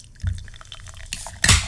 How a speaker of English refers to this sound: Good pour. Oh, that's a really good pour. Straight out of, that's out of a movie. Sounded like Beer Buddy. That's out of a movie. That did sound like Beer Buddy.